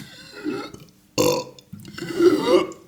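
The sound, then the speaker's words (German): A deliberately forced artificial burp: some gulping, air-swallowing noises, then a sudden croak and a longer, rumbling belch that swells and fades, with no talking. “Also das ist schon so, das ist kein besonders eindrucksvoller Rülps, aber es ist ein merkbarer.”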